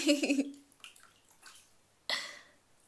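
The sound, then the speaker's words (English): Water sloshes and splashes in a warm bubble bath as a person moves in the tub, a burst at the start, scattered drips and ripples, then another sudden splash near the end, with no talking. “I think you should get in this fucking tub with me.”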